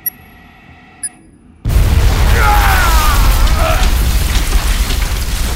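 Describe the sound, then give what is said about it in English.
Two sharp metallic ticks, then a grenade explosion bursts in abruptly and loudly, followed by a sustained, roaring rumble with crackling debris of splintered rock that continues to the end. “Theo has weathered the blast, though his limbs are numb”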